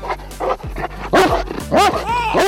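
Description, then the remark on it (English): A large Great Dane guard dog barks several times in quick succession, deep and loud, with a few short sharp yelps between the heavier barks, fairly steady in rhythm. “I think sometimes people forget that underneath all that calm is still a very, very large guarding dog.”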